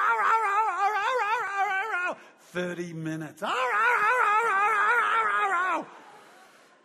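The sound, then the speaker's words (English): A voice imitates a dog howling: two long, loud, wavering howls, briefly interrupted by a short spoken phrase in between. “We can't stop because he will think that he'll get what he wants when he barks like this.”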